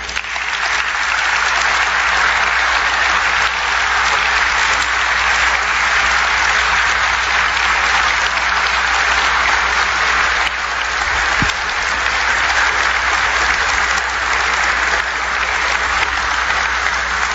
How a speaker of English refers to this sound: Please join me in applauding the bravery, sacrifice, and patriotism of the heroes we are honoring this evening.